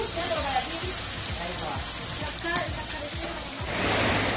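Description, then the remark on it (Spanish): Heavy torrential rain pours down onto city streets in Seville and Melilla, Spain, in the afternoon, a dense, continuous hiss, loud, with faint muffled sounds underneath and a slight swell in intensity near the end; within 30 minutes the streets have turned into rivers. “Esta tarde así se escuchaba el agua caer en Sevilla y también en Melilla.”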